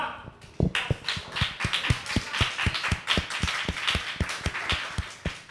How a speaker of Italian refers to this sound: e scatta l'applauso